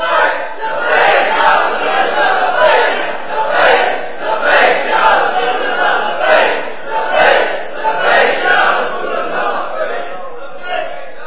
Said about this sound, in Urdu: یہ لبیک کے نعرے کے اندر یہ پختگی اور یہ ولولہ، یہ تنتنا اور یہ سحر انگیزی یعنی جادو، کہ یہ نعرہ ایسا ہے کہ جو سنتا ہے تو پھر پریشان بھی ہوتا ہے جو غیر ہوتا ہے، اور جو عاشق ہوتے ہیں وہ آدھا گھنٹہ بھی لگائے تو وہ کہتے ہیں ابھی ختم کر دیا